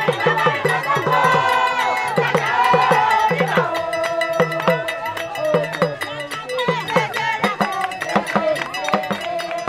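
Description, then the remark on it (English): A lively festival crowd sings and chants together over a steady cowbell and talking drum beat that opens a circle in the crowd, which fills with dancers and song, voices layered and continuous throughout, with scattered shouts rising from the throng. “The beat of a talking drum and a cowbell opens a circle in the crowd, which then quickly fills with dancers and song.”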